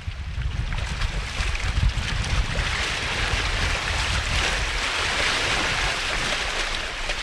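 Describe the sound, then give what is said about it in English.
Steady Arctic Ocean shoreline ambience at the hamlet of Tuktoyaktuk on the mainland of Canada: a continuous wash of waves and wind with a deep low rumble, fairly loud and unbroken throughout, with no voices. “This is where the mainland of Canada looks out on the Arctic Ocean, a hamlet that calls itself the top of the world, Tuktoyaktuk.”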